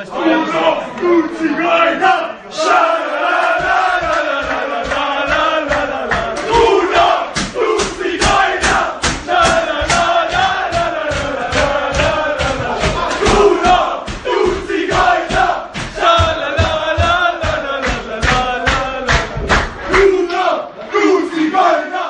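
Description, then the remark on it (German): The German U21 national football team chants loudly together in the locker room, voices raised in a rowdy celebratory song, while rapid rhythmic clapping or stomping starts after a few seconds and keeps pounding along to the end. “So sehen die Jubelgesänge einer deutschen Fußballnationalmannschaft also aus.”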